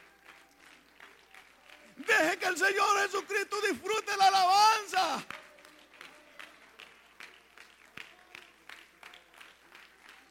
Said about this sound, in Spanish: Sigue alabando. Sigue aplaudiendo.